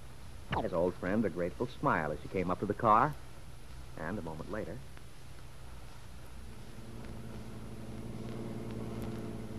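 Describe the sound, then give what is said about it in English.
People talk briefly, then the engine of David Bowman's car hums steadily and low as it turns into the drive, the idling drone continuing on its own to the end. “Then Mary Lane saw David Bowman's car turn into the drive and hurried down to meet him.”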